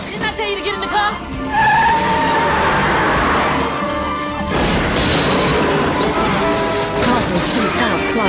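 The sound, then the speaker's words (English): A car reverses into a police car: tires squeal loudly in a wavering, high-pitched screech, then a sudden metallic crash bursts in halfway through, followed by more skidding and rumbling engine noise. “As Carter shoots at him, Clive reverses into the cop car.”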